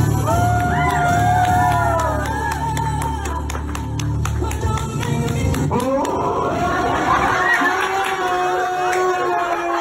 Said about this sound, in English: And I want you to, when you watch this thing, I want you to listen to people in the background laughing and clapping.